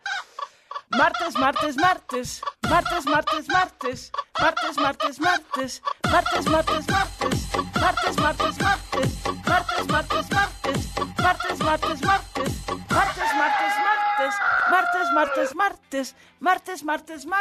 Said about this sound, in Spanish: ¿Ya se acabó el gallo? Ah, estuvo muy breve, échamelo otra vez.